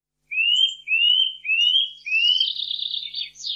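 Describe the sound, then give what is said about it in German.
A Eurasian nuthatch calls alone and clearly: four loud, rising whistled notes in an even series, followed by a quicker, higher twittering phrase. “Dann war es ein Kleiber.”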